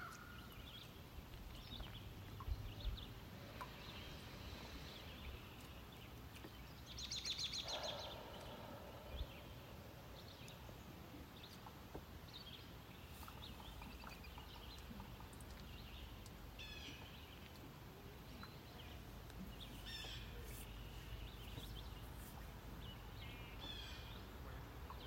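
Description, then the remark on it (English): Scattered bird chirps and calls ring out over a steady outdoor hiss at Oxton Lake, with one louder, harsher crow call near the middle. No one speaks. “It's being offered through the animals. Bird and Crow have already joined us.”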